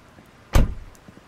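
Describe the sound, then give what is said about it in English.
A single solid car door thump as a dark blue Malibu is pulled into a driveway in light rain and the driver gets out, fairly loud, with a short low rumble trailing off. Quiet background before and after, and no voices. “Sometime later, light rain falls once again as Detective Santos pulls her dark blue Malibu into Adam's driveway. Getting out, she walks past Adam's BMW convertible parked in front of his three-car garage.”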